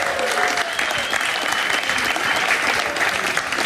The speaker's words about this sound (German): Und dazu begrüße ich jetzt ganz herzlich mit einem warmherzigen, frenetischen, tosenden, liebreizenden Applaus